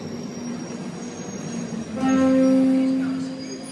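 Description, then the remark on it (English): A London Underground train at a platform rumbles steadily, then a loud, sustained tonal whine rises over the noise for about a second before easing off as the train keeps droning. “So they say, in the train system, they say, mind the gap.”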